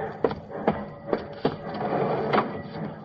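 train starting to move

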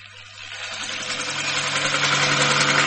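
helicopter flying overhead

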